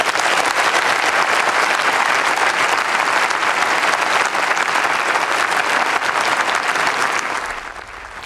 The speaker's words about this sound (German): Wladimir Putin war das, der russische Staatspräsident, der jetzt mit viel Beifall bedacht wird. Die Abgeordneten haben sich von ihren Plätzen erhoben und applaudieren Wladimir Putin.